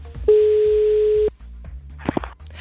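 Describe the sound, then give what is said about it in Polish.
A single steady telephone ringback tone sounds for about a second, loud, then cuts off, followed by faint line noise and brief soft clicks; a radio host is phoning a listener, waiting through up to five rings. “Drugi, 5 sygnałów, czekam, przypominam.”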